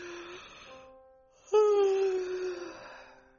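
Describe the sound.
A voice imitates two drawn-out yawns in a row, the first softer and trailing off, the second starting abruptly louder with a long, sighing, descending moan before fading out.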